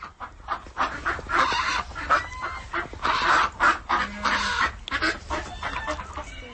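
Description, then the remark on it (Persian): Ducks calling at a zoo in snow and cold weather, in a noisy, overlapping chorus of harsh quacks and honks, coming in repeated loud bursts with short gaps, and no one speaking. “تنها از جای صدای گاه مرغابی و گاه سگ را شنیدن ممکن است که در به اصطلاح منزل‌های خود روی برف برخی خوابند و برخی دیگر گویا از سردی در جای نایستاده به هر سو حرکت میکنند.”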